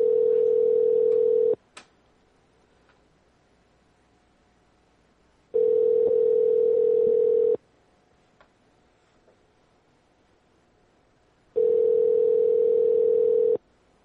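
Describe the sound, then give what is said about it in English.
A phone line ringing unanswered: three steady, buzzy ring tones, each lasting about two seconds, separated by roughly four-second gaps of near silence, with a couple of faint clicks between rings. “Sorry, Mr. No answer there.”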